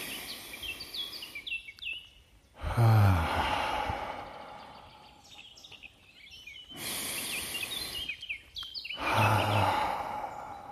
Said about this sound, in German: Und zwischendurch hört ihr mal ein bisschen den Vögeln zu